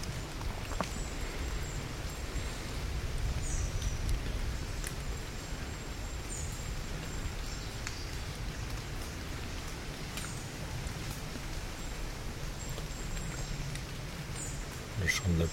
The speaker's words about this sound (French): Les gouttes d'eau qui tombent sur les feuilles nous invitent à écouter ces murmures, à les laisser entrer en nous.